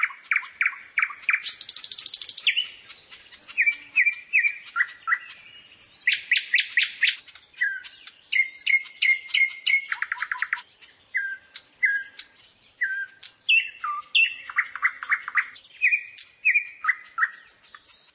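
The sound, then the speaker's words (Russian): A nightingale sings alone, clear, in a long run of varied phrases: rapid repeated trills, sharp whistles and chattering notes separated by brief pauses. “Например, соловей литовский и около Петербурга отличаются.”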